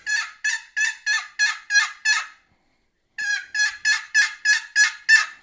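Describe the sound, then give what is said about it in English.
Excited turkey hen yelps made on a turkey call to a gobbler just before he flies down: two quick, evenly spaced runs of loud yelps, about six then eight, separated by a short pause, with no talking. “Four or five faster yelps. That's kind of an excited hen call.”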